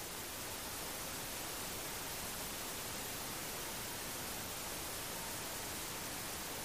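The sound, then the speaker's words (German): A rushing waterfall pours in a steady, unbroken hiss of falling water, soft and even throughout with no voices or other sounds. “Und wenn du magst, kannst du dich nun unter diesen Wasserfall stellen.”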